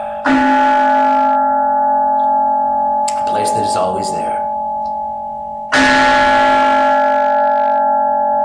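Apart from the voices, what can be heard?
meditation bell being rung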